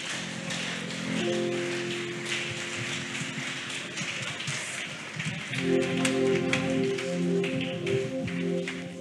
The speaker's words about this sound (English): Can we put our hands together for the living God?